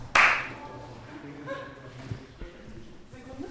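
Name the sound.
hand clapping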